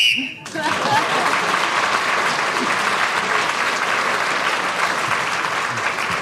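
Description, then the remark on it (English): A short, shrill whistle blast, blown to end the round, cuts off right at the start, immediately followed by loud, sustained applause from an audience that continues steadily to the end. “You got a point for speaking when the whistle went.”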